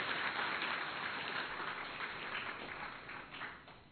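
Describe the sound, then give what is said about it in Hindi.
A crowd at Pandav Bhawan applauds steadily, a dense wash of many hands clapping at an even level before tapering off slightly at the end. No one speaks over it. “तालियां तो बजाओ भाई।”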